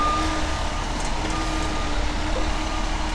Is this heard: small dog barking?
no